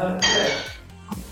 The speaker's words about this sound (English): Oh, that was a, there's a plate smashing, is that a plate, I think. It's a plate. Nice sound effect.